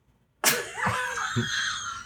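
A loud dog fart bursts in abruptly and drags on for well over a second, raspy and squeaky in tone, with a couple of low sputtering pulses partway through.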